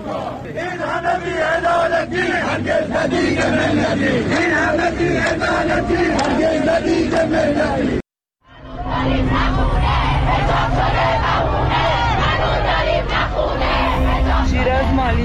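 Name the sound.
protest crowd chanting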